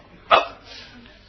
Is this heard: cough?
no